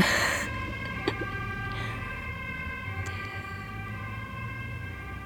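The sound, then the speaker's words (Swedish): A siren passes behind the speakers, sounding continuously, a steady tonal wail with strong harmonics held at moderate loudness over a low rumbling background, with a couple of brief clicks and no one speaking. “Det kan ju verka konstigt också att jag kanske ska invänta den här sirenen som går bakom oss.”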